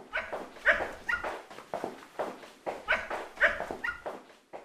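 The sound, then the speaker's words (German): A dog barks repeatedly in quick, uneven bursts, moderately loud, with no talking over it. “Es war einmal eine alte Frau, die ging wie jeden Abend um 20 Uhr mit ihrem Hund spazieren.”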